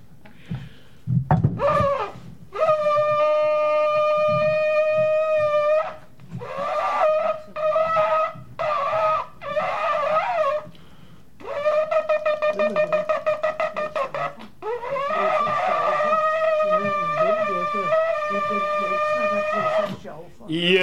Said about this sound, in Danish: I kan godt høre, at det ikke er den nemmeste at blæse i. Der er ikke meget gennemgang i sådan en shofar, som jo er et vædderhorn, som er udboret, og så er der lidt luft igennem.